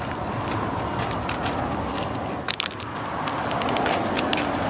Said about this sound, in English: So let your alarm go off.